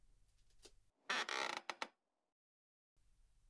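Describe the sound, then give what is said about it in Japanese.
A loud creaking of a reclining hair salon chair being raised a little, a dense grinding burst lasting under a second with a few sharp squeaks at the end, followed by silence. “はい、少し椅子を起こしますね。”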